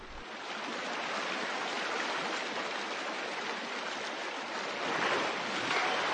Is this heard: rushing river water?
yes